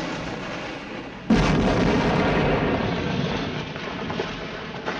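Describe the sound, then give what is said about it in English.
End of the Bullitt film chase scene, as the two mobsters' car slams into a gas station that blows up: a low rumbling roar is abruptly overtaken by a loud explosive blast, which swells into a sustained, crackling fireball roar that slowly eases off over several seconds, with no voices. “It ends as the two mobsters slam into a gas station, which then blows up.”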